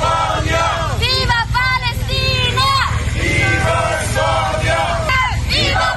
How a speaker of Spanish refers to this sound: A su llegada a Oslo, un reducido grupo de manifestantes han recibido a la delegación española con gritos de apoyo. ¡Viva!